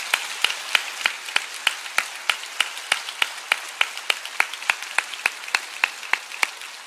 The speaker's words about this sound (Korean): 총 16개국의 32 유닛 우리 선교사님들이 함께 하고 계시는데요. 우리 구리 채플과 필그림 하우스 그리고 전 세계에서 함께 계시는 파송 선교사님들을 위해서 뜨거운 박수로 격려해 주시면 감사하겠습니다.